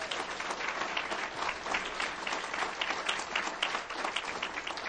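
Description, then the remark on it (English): An audience at an Al-Anon fellowship gathering applauds its delegate, alternate, officers and coordinators, a dense wash of many hands clapping at an even, sustained level throughout, with no voices standing out. “So let's have an applause for all of them.”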